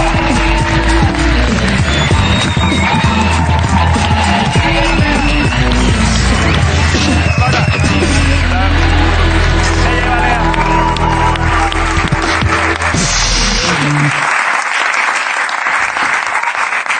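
A loud, sustained ovation for NBA champion JJ Barea on the show La Resistencia: dense applause and cheering from the audience, with music playing underneath, lasting about fourteen seconds before dropping away to a softer hiss of clapping.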